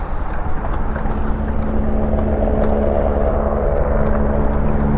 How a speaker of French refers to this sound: Oh, l'hélicoptère qui dit bonjour! Incroyable!